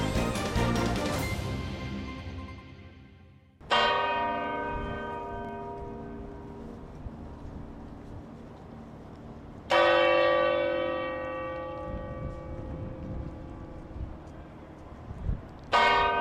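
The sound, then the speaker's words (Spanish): Large church bells of the Almudena Cathedral in Madrid toll in slow succession at nine in the morning on 11 March, each strike loud and ringing out with long, shimmering decays that overlap. Three main strokes sound over about sixteen seconds, with no voices present. “Así sonaban las de la Catedral de la Almudena.”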